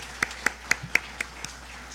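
Steady, evenly spaced hand claps from a church audience applauding members' birthdays, about four per second, sharp and fairly soft, fading slightly after six or seven beats, with no voices over them.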